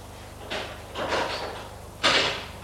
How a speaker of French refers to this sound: Une porte s'est ouverte.